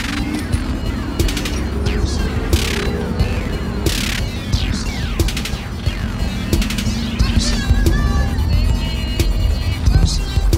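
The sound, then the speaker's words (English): A steady low engine rumble of a bus that has just arrived fills the whole stretch, with squeals, clatter and other sharp noises of a busy street over it. “At last the bus is here, I can sit down.”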